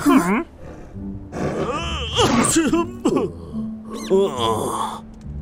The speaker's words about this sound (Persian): تو نیمه راهشون صدای عطسه سلطان جنگل رو شنیدن.